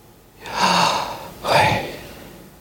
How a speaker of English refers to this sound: Okay, now breathe in and out noisily.